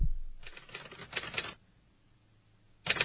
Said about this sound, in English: The clerks are typing. Yeah, they're typing up stories. That's how you know it's the All Marine Radio newsroom.